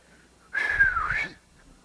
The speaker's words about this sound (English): Now, I wish I could whistle. If I could, I'd go like this.